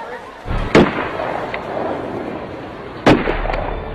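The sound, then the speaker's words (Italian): Two sharp, booming firearm shots ring out about two seconds apart, each a broad percussive crack with a short echoing tail over a steady crowd murmur, in Rome at 17:17, as the Pope collapses in his small open car. “Un rumore sordo, ripetuto, non c'è dubbio, si tratta di spari di arma da fuoco.”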